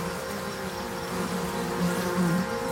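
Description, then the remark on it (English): A dense, steady drone of many flies swarming on a dead elephant's carcass, a continuous swarming hum with slight swells in loudness, no voices present. “Flies swarm on the carcass.”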